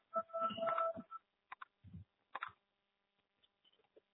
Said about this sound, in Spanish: Por favor, ingrese el número de teléfono de la persona a la que desea dejar un mensaje y marque la tecla gato.